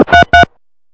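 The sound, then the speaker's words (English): Two short, steady electronic beeps in quick succession, like touch-tone keys being pressed while dialing a phone number to call Fat Albert's Fried Chicken, followed by silence. “I'm going to call Fat Albert's Fried Chicken.”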